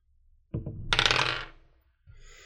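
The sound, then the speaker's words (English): Dice are rolled in a tabletop role-playing game for a character's attempt to open a garage door: a few hard clicks, then a dense, bright clatter as they tumble and settle over about a second, fading to quiet with a soft rustle afterward. “I'm going to roll one more time for Sue to try to get them out of this jam.”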